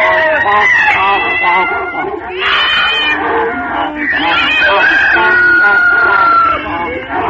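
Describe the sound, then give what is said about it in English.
A rooster crows loudly, its long, strained calls mixed with squawking and clucking that keep up almost without a break for several seconds. “the rooster crowed and pecked his ears”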